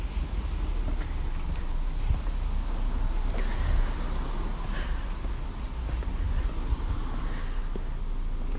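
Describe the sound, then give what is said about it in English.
A car rumbles along a road while a person on foot steps out of its way, its low engine and tyre noise holding steady and fairly loud throughout, with faint outdoor clatter in the background and no one speaking. “Getting out of the way from a car, but it doesn't look as if it's got any intention of coming my way.”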